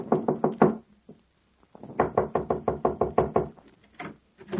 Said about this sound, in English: Now, it's early afternoon, and Tippy Rogers, who drove the hit-and-run car, is knocking impatiently on the door of the Kenyon apartment.